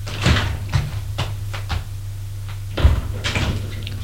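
A drawer is pulled open by a man to take out a pack of cigarettes, with a series of short wooden knocks and rattles, the loudest clunk near the end, over a faint steady low hum.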